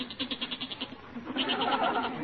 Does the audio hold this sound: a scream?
no